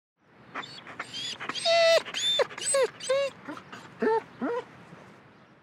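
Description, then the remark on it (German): A dog whimpers excitedly with joy in a rapid series of high, squeaky whines and yelps, fairly loud, rising and falling in quick bursts with no talking. “Aber es gibt auch Hunde, die vor Freude winseln.”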